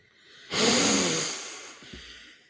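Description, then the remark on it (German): A single deep, audible breath drawn in sharply, a broad airy rush that swells quickly then slowly fades over about two seconds, with no talking. “Ja, erstmal einen tiefen Atemzug nehmen.”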